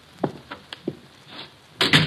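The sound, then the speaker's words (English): A hotel room door, Room 304 at the Paul Hotel, being opened: a few soft clicks and thumps from the latch and handle, then a louder, rough swinging sound at the end. No one speaks. “The door's open.”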